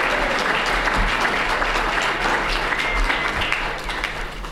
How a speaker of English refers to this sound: Can we please get a round of applause for your Manitou Spring School Board candidates? Thank you.